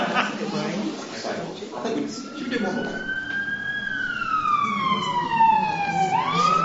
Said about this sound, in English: What's that? Police car. Oh, same difference, isn't it? The blue light or whatever.